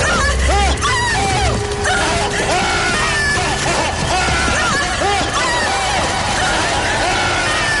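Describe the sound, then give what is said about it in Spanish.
Many wolves attacking at a window and getting in, in a loud, chaotic frenzy: many overlapping snarls, yelps and barks pile on top of one another without pause, with frantic human shouting tangled in the din. “¡Lobos! ¡En la ventana!”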